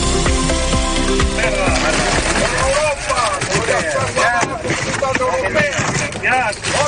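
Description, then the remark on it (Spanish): A group of farmers dump dozens of oranges onto the ground at the Port de Castelló during a protest gathering, a dense rush of thuds and rattling, while a crowd of voices shouts loudly over it, some shouts alluding to Europe, the yelling growing more prominent toward the end. “Lo que escuchas entre algunos gritos aludiendo a Europa es el instante en el que un grupo de agricultores han tirado decenas de naranjas al suelo.”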